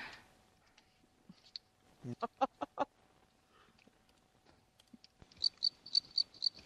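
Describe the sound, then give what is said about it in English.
A crickets sound effect: crickets chirp in a quick, steady series of high-pitched pulses near the end, preceded by a short run of louder, rough bursts and scattered faint clicks. “Yep, that's it. Crickets.”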